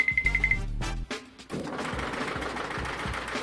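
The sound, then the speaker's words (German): A loud industrial multi-blade saw with several saws inside, cutting two thick wooden boards into many thin ones for sled runners: a rapid mechanical chatter with a thin whine, a brief lull, then a sustained, harsh roar of blades cutting through the wood. “Da sind gleich mehrere Sägen drin, die zwei dicke Bretter in viele dünne zersägen.”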